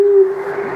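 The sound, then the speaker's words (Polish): A single low, steady owl hoot, a long-eared owl call, sounds once, fairly loud, then fades into a soft breathy tail with no other sounds around it. “To była uszatka, tak?”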